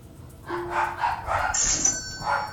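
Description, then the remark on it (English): Several dogs bark and yip in a quick, overlapping burst, moderately loud, with a thin high whine running through part of it. “The dogs aren't helping anything.”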